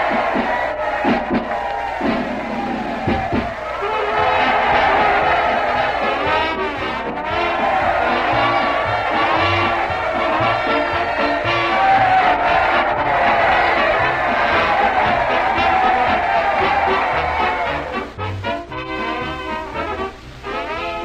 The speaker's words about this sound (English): Well, just look at that crowd, Dr. Christian, marching on to the town hall to join the voters. Isn't it thrilling?